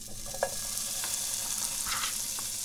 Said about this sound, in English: So let's get cooking. Get my handy spatula here and throw the meat in the pan.